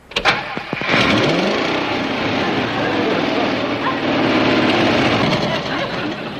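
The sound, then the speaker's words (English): The engine of an open-top car with no roof cranks with a few sharp clicks, catches and revs up with a rising whine, then settles into a loud, rough, steady roar that continues to the end. “Kind of loud, isn't it? It purrs like a kitten.”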